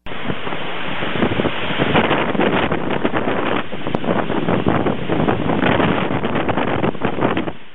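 Strong sea wind roars steadily and loudly across the microphone, buffeting it with rough, gusty rumbles, on a rainless day along hills beside rocky sea slopes in the Humboldt mountain area, with a faint wash of surf or water underneath and no voices.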